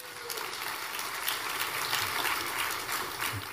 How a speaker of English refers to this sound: Thank the Lord for that. Give the Lord a great hand clap for that. Amen.